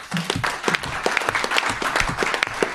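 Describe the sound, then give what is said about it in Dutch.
A crowd applauds steadily, with many overlapping claps forming a dense, even patter at moderate loudness, scattered sharper individual claps standing out, and no talking. “Dus ook ja, daar toch wel even een applaus van aanwezig voor.”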